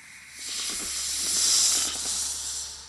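A snake's steady hiss, loud, swelling slightly in the middle and holding for about three seconds over a faint low background murmur.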